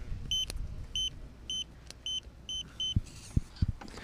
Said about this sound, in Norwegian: De med absolutt gehør kunne sikkert høre hva koden var der, men du vet, ja, her er altså.